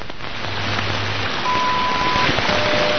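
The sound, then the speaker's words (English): The atomic-clock time signal broadcast on shortwave from Fort Collins, received in Ham Lake, Minnesota on an ICOM radio and streamed over the internet, under a constant wash of hissing static: a low hum fades in, then a steady high beep holds for almost a second, followed by a fainter tone. “But the caller who wanted the Fort Collins clock signal.”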